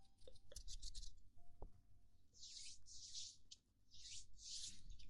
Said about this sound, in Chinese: 接下来做一个搓手手。